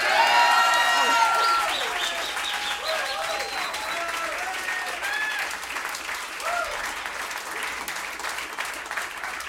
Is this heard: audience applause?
yes